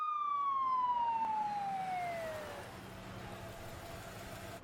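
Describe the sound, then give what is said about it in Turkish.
An ambulance siren in Istanbul sounds a single long, descending wail, loud, then trails off into a fainter hum of traffic noise. No one speaks. “İstanbul'da ambulans numarası kaç oluyor acaba?”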